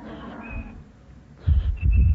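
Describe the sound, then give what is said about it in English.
Someone whistles a chickadee call: thin, high, steady notes in two short phrases separated by a pause, over a low, rumbling background noise. “And one time, and my father's bird call for my mother was the little chickadee.”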